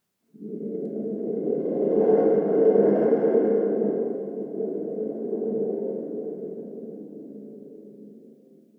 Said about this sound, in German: Und tatsächlich, ganz dicht fliegt ein Flugzeug vorbei.